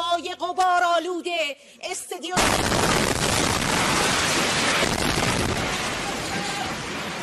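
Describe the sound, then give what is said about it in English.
A person speaks for a couple of seconds before a sudden, loud explosion from an Israeli airstrike hitting Iran's state-run TV studio during a live broadcast cuts in, followed by several seconds of sustained roaring, crackling noise that slowly fades as the anchor runs off the set. “The anchor ran off the set once the explosion started.”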